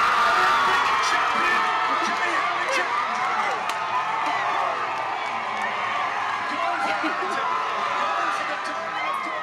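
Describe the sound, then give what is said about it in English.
A dense crowd of neighbours at Portland Road, watching the fight on a big screen, roars and cheers continuously after Kelly's historic win, with excited shouts and whoops rising over a steady wall of many voices, loud throughout. “Oh, there's some neighbours, some crowd.”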